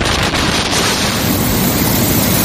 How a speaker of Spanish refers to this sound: España sigue en alerta por el temporal Nelson, con lluvia, con viento, con fuerte oleaje y con nieve.